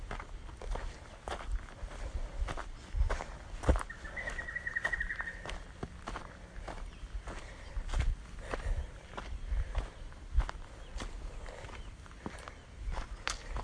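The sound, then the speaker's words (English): Faint peeping of small birds in the distance, including one brief high trill, half-buried under steady footsteps crunching along the ground. “Quite a lot of small bird peeping around in the distance.”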